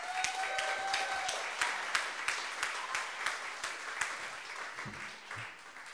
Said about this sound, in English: Give a round of applause, ladies and gentlemen, the educator redneck, Dan Ellison!